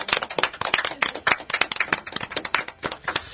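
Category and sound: crowd, hand clapping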